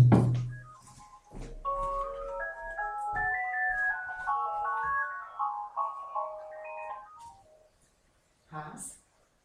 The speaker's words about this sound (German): Ja, das sind jetzt so ein paar Beispiele und jetzt läutet das Telefon, ich gehe schnell schauen.